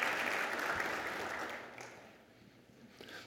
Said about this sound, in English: So give her a big hand of applause and welcome her to our program.